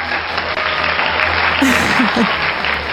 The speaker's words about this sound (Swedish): En liten applåd.